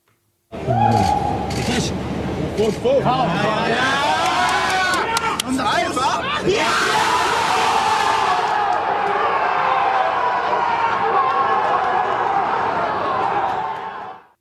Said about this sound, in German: Ja, das war, glaube ich, nicht zu überhören. Ein riesiger Jubelschrei natürlich. Gladbach im Achtelfinale, weil Donetsk gegen Inter 0-0 ausgegangen ist.